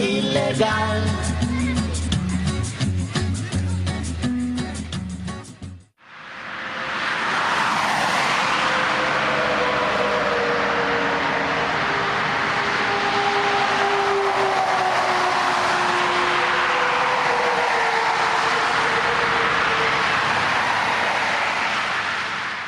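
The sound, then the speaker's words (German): A few seconds of music cut abruptly into a steady roar of traffic at a motorway rest stop on the A5 near Freiburg, with deep engine drones of heavy trucks rising and fading over a continuous rush of tyres. “Eine Autobahnraststätte an der A5 in der Nähe von Freiburg. Hier stehen Tag und Nacht Lkw-Fahrer, tanken, warten oder gehen auf die Toilette.”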